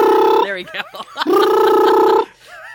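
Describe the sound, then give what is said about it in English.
A voice mimics a telephone ringing, loud: two long, warbling held tones separated by a brief burst of sliding, wobbly pitch, with no other sounds around it. “you start off with the phone noise.”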